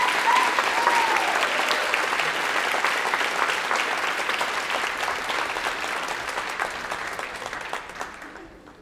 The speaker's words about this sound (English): Please give these student athletes a round of applause. Thank you.